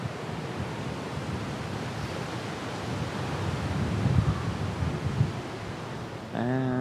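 A strong gust of wind roars steadily across the microphone, swelling louder toward the middle before easing, with a voice starting to speak right at the end.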